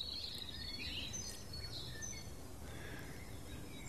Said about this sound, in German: jetzt lauschen wir noch mal dem Rotkehlchen, das hier ganz nah sitzt. Da ist es untermalt mit dem Amsel. Und wenn eine Amsel anfängt, werden die anderen kurz animiert, mit einzusteigen.